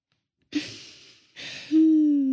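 A sharp, breathy gasp, then a second rush of air that turns into a sustained voiced 'ooh' of amazement. No words are spoken.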